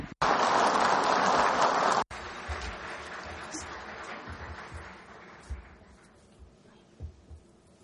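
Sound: loud applause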